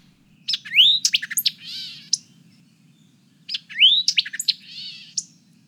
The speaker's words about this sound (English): One of my duties was surveying birds on the tiny teardrop-shaped tree islands that dot the Florida Everglades, each of which had a singing white-eyed vireo.